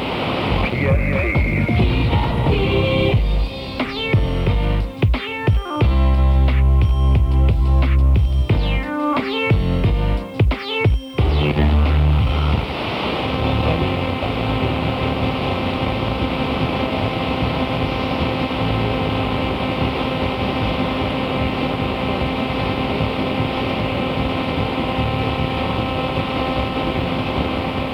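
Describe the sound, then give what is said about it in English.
FM radio tuned to 97.5, WPST, marred by digital sideband buzz: choppy, stuttering broadcast sound for the first half, then a steady, harsh buzzing hiss with sustained droning tones that continues unbroken to the end. “Can you hear the buzz?”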